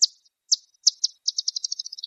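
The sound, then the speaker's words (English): A bat's echolocation chirps, a few spaced high calls that quicken into a rapid accelerating series, a feeding buzz as it detects and homes in on prey, crisp and fairly loud with no other sound around them. “Those chirps you heard are the sound of a bat detecting and homing in on some prey.”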